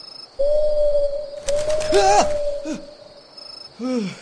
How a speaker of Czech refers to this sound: Sovo, ty jsi mě tedy vyděsila.